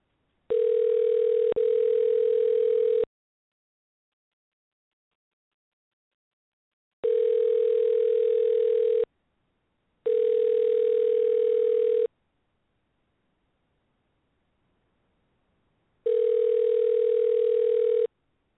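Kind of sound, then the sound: signal or alarm, outgoing phone call ringing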